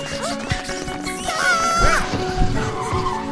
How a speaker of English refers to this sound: Screech.